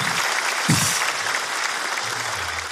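A steady burst of applause from a small group, given for a friend they miss, dense clapping filling the whole moment at a fairly loud, even level without any voices on top.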